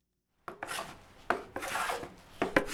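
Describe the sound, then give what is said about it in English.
A Haida carver uses a hand tool to carve a wooden canoe paddle in the town carving shed in Kasaan, scraping and rasping in repeated strokes, each stroke a broad hissing burst, fairly loud, with no voices. “caught up with an artist in the town's carving shed as he made paddles for the journey.”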